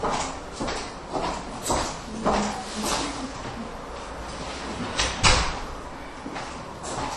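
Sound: sliding door being closed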